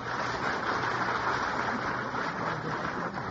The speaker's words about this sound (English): I gather from the applause of the studio audience, which knows much more about music than I do, that that was a pretty tough trick.